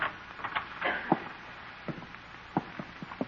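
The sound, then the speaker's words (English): A side door marked employees only being opened slowly and quietly: a scattered series of soft clicks, clunks and knocks, like a handle and latch being worked, with no voices. “Here's the door. Says employees only, but let's go in anyway.”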